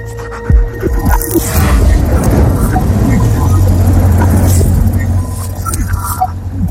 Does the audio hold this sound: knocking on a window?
no